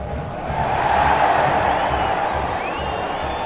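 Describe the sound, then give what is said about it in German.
A huge crowd of about 26,500 spectators roars and cheers continuously at an FC Basel home football match against St. Gallen at the Joggeli stadium in Basel, Switzerland, a dense wall of voices swelling slightly in the middle, with scattered whistles and shouts rising above the steady noise. “Vor dem Jubeln haben sich die rund 26'500 Zuschauer im Joggeli mit einer Schweigeminute von drei wichtigen FCB-Persönlichkeiten verabschiedet, die in der Winterpause gestorben sind.”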